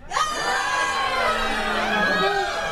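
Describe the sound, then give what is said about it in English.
A large crowd screams and shouts together, many high, overlapping voices blending into one loud, continuous wall of noise that holds steady for a few seconds. “Well, just then, the little girl, Allison, she woke up and she heard all these folks screaming.”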